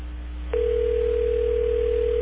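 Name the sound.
telephone call ringing through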